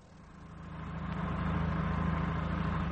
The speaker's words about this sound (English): Well, better get the engine turning for my lord and master.